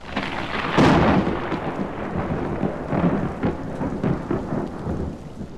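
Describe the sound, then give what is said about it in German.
Heavy rain pours down steadily while a loud rumble of thunder swells near the start and lingers underneath, the downpour dense throughout. “Und es schien ganz, als wolle es fort und fort weiter regnen, bis die ganze Welt unter Wasser stünde.”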